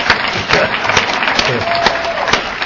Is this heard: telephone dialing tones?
no